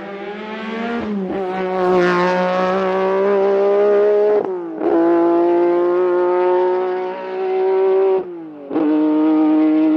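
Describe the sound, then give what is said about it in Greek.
A Lancia Stratos rally car engine revs hard, its loud buzzing roar climbing in pitch, then briefly dropping at each of three quick gear changes before surging again. No voices. “Είναι ένα αυτοκίνητο που σχεδιάστηκε και κατασκευάστηκε με ένα σκοπό να τρέξει στα ράλι και να κερδίσει.”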